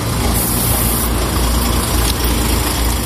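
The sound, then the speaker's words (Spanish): Engines of dozens of heavy refrigerated trucks loading goods at the docks idle in a steady, loud rumble, a deep low drone under a broad mechanical hiss, holding constant throughout with no voices. “vamos a los muelles, decenas de camiones cargan la mercancía.”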